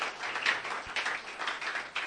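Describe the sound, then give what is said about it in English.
An audience at a church service of Amazing Love Assembly applauds the Lord together, a dense, steady patter of many hands clapping at a moderate level for a couple of seconds, with no voices standing out. “Let us give the Lord a round of applause.”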